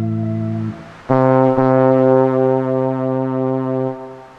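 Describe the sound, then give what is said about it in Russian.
A steamship horn sounds alone: a shorter, lower blast, a brief pause, then a long, loud, booming blast held for about three seconds before cutting off. It opens a philosophy programme on Radio Novaya Zhizn. “Это гудок философского парохода, который отправляется в путь по океанам мысли, по океанам философии, собственно.”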